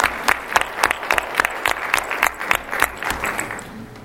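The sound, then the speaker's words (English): An audience claps steadily for several seconds, a dense, continuous round of applause with sharp overlapping hand claps, sustained before easing off slightly at the end. “So let's have a real round of applause for everybody in this room.”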